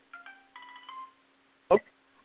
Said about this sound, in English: hopefully this will dial his number, and we will be talking to him in a few seconds. It's ringing.